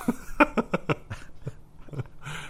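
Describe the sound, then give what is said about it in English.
A person imitates a growl, making a quick run of short, throaty, dog-like bursts followed by a few scattered grunts, fairly loud, with no ordinary speech. “And my favorite thing about him they talk about is like walking through the halls, if you greeted him, he would growl at you.”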